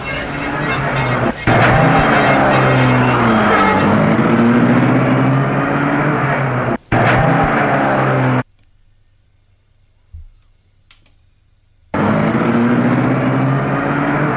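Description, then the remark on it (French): A Rolls-Royce car engine, started by a chauffeur, runs loudly and steadily with a rough, buzzing drone, cuts out briefly, then falls silent for several seconds before roaring back up. “Et il la met en route.”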